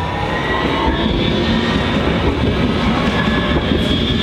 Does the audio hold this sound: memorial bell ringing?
no